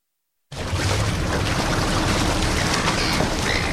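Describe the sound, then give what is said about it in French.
A steady, loud wash of ocean surf on the esplanade of the Opéra starts abruptly and rolls on without pause, with a few faint, high gull cries slipping through near the end. No one speaks. “Le bruit des vagues et le cri des mouettes, depuis bientôt 2 ans, c'est à peu près la seule chose qu'on entend sur l'esplanade de l'Opéra.”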